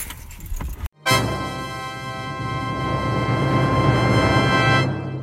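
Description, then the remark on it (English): People climb out of a car: a second of shuffling and jingling keys, a brief thunk, then a steady droning hum from the vehicle for several seconds. No one speaks. “All right, let's get out of the car.”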